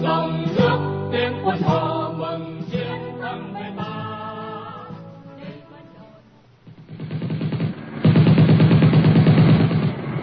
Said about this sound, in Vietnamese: Rồi ngay lúc đó, tiếng súng nổ bắt đầu vang lên dồn dập, biết lính của mình đã chạm địch.